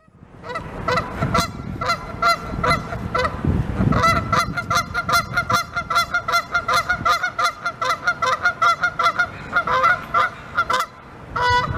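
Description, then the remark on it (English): An angry, irritated Canada goose honks aggressively and repeatedly, loud, with harsh rapid calls in a near-continuous stream and a few brief pauses, no voices present. “Let's listen, shall we, together to the sound of an attack goose.”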